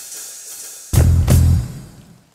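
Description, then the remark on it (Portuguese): Rain falls with a soft steady hiss, then a sudden loud, rumbling surge of heavy rain swells for about half a second before fading back to a quiet patter. No one speaks. “Cara, pelo que eu tô vendo, essa chuva não vai parar tão cedo.”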